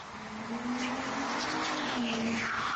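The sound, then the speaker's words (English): A car engine roars as the car speeds right into a person, with a steady loud rising whine and some tire noise, continuous with no voices. “car speeding right into him.”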